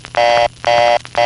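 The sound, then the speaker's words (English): A telephone reorder tone as produced by crossbar 5 switching equipment: a loud, steady buzzing tone pulsing rapidly on and off, three short bursts with brief gaps, no speech. “So each of those are coming from the same tone source, but the step makes it sound like this, and in the crossbar 5 it sounds like this.”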